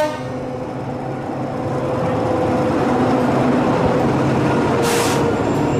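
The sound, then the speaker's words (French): A train idles at the highest railway station in the country, at the foot of the country's highest mountain, with a steady, loud mechanical rumble and droning tones, swelling slightly, then a short sharp hiss of air brakes near the end. No one speaks. “Ça, c'est la gare la plus haute d'un pays qui monte déjà très très haut.”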